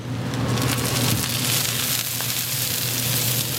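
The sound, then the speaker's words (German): An oyster omelette of oysters, batter, egg and vegetables sizzles and spatters on a hot griddle at a street food stall at a Taipei night market, a steady loud hiss full of crackling pops over a low, constant hum. “Hier, wo es so zischt und spritzt”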